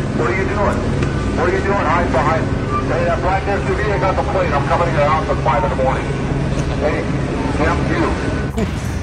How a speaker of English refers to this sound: LAPD is talking smack to the protesters. Uh-oh. In the helicopter. Oh, no. They're in the helicopter, bro.